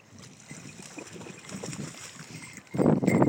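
Dogs paddle and splash in a lake at Rother Valley, UK, on an evening, with soft, irregular sloshing, then a louder burst of splashing near the end. Light wind noise sits in the background, and no one speaks.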